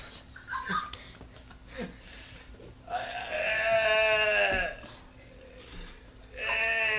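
Goats bleat loudly: one long, quavering cry followed after a pause by a second bleat, with softer scattered sounds beforehand.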